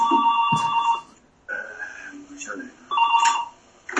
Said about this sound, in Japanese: あ、何の音ですか、これ。 あ、電話です。もう、ちょっと無視しましょう。